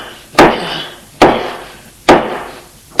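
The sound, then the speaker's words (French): A kitchen knife strikes hard into the wooden door of an apartment in sharp, evenly spaced blows, about four thuds roughly a second apart, each with a quick crack and a short ringing decay, the blade sinking into the wood in several places. “Il cogne, cogne et le couteau s'enfonce à plusieurs endroits dans le bois.”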